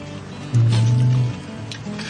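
Steady rushing of river water fills the whole clip, with a loud low rumble swelling briefly in the middle, like wind buffeting the microphone, on a fairly windy day. No one speaks.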